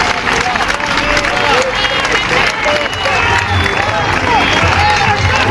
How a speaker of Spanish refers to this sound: Estos son los gritos de los sanitarios que se manifestaron en la Puerta del Sol en Madrid el pasado noviembre.